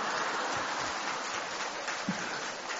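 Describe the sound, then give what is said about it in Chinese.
A crowd applauds with dense, continuous clapping that blurs into a steady, rain-like roar, holding an even loudness for the whole stretch with no voices over it. “你们现在知道师父要掌声是这么要来的”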